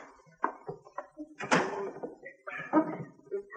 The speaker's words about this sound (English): I just want to lock the door out back here.